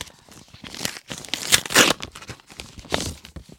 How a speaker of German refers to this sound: Ach so, ja, nee, wir haben noch eine Fanpost. Wir machen sie jetzt auf, würde ich sagen.